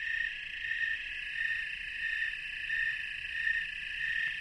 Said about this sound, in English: The snowy tree cricket's another example where males will sing in unison with one another.